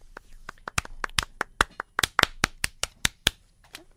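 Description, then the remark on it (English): Scattered, thin applause from just four or five people in the audience: sharp individual claps in an uneven rhythm, fairly quiet and brief, trailing off toward the end. “Barely. Clapping. Sheesh. Four or five people in the audience.”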